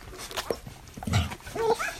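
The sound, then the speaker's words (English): Eleven tiny six-day-old golden retriever puppies squeak and whimper as they rush to feed from their mother, several thin high-pitched cries overlapping in quick, uneven bursts with soft snuffling underneath and no talking. “This is the sound of 11 puppies.”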